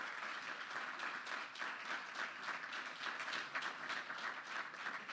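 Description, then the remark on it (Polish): An audience applauds steadily at a ceremony where a valve is turned to symbolize the start of gas transmission through the Baltic Pipe pipeline, a dense wash of many hands clapping at an even, sustained level for several seconds without letting up. “Poproszę o brawa, bo ważna chwila.”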